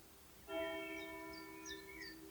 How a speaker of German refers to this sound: Ich weiß nicht, ob ihr das hören könnt, aber zum Wort zum Sonntag schlägt hier die Kirchenglocke. Es scheint also sehr wichtig zu sein, was ich hier sage.